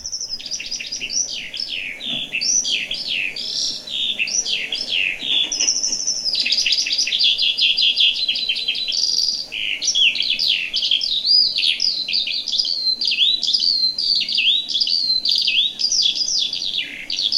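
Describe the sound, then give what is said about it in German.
A recorded bird song plays: a long, unbroken stream of rapid, high-pitched trills and warbles, fairly loud, with no pauses for about seventeen seconds and no voices. “ich lasse mal einmal den Vogel laufen, dass man den auch mal hört”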